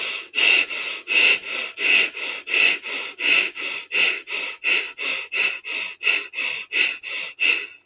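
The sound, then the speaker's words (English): Rapid, forceful deep breathing in and out through the nose, a steady rhythm of about twenty evenly spaced breaths, loud, with no talking, as the third and final set of deep breathing with palms up. “Get ready for the third and final set. Palms up. Deep breathing.”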